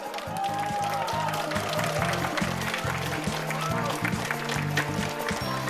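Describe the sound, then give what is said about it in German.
An audience claps and cheers steadily throughout for a speed-car robot presented on stage in a robot audience-prize vote, a dense wash of applause with some crowd voices mixed in, while a low, rhythmic bass line plays underneath. “Jetzt bitte einmal klatschen, das Geschwindigkeitsauto.”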